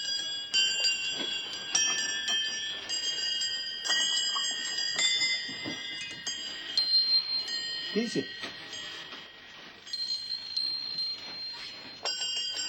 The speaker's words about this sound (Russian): Так вот, эти колокольчики я купил. И они очень красиво звенят.